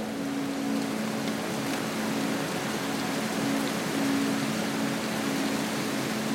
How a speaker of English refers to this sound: Then, as if some serendipitous moment had occurred, the heavens had opened and the rain had poured.